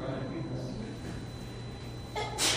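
A steady low murmur runs throughout, then near the end comes one short, breathy sneeze, a quick hissing burst that is small and rather weak.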